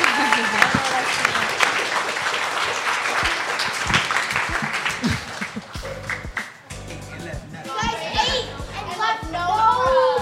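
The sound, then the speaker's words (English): Sustained audience applause in a standing ovation, with scattered cheers and whoops from young voices, dense clapping throughout, shifting later into lively shouting and excited high-pitched calls over continued clapping. “Can we all like stand up, give them a round of applause, okay. Like cheer them on.”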